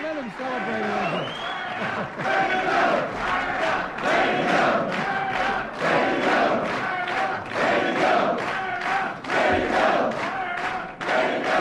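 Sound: crowd applauding and cheering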